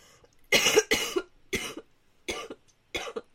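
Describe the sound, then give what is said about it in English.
A person coughs five times in a row, starting with a harsh double cough, then three shorter, spaced-out coughs, each a loud, raspy burst. “I mean, do your listeners want to hear what you sound like when you're coughing and splurting away in the background?”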